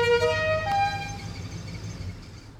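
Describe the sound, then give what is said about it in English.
A produce vendor truck announces its arrival with a short musical horn, a few rising tones over a low idling engine rumble, then the horn stops and only the motor drones on. “You knew what the truck was. That sound told you, go buy some produce.”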